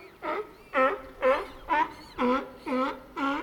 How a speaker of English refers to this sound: Then Lily heard loud barking from the pool next door.